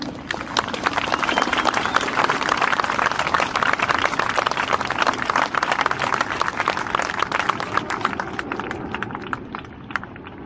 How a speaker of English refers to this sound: Give him a big clap for folks.